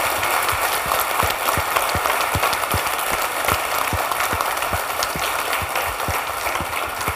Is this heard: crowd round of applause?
yes